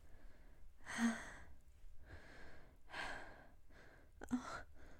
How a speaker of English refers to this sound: Feel my breathing as my tits press up against your chest. While we catch our breath.